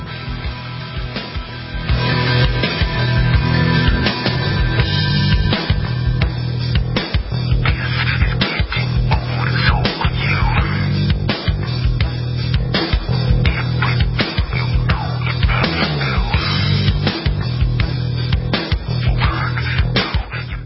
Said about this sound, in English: That? That's the sound of a house being trashed while a gang of thieves ransack the place. And what they don't steal will be destroyed.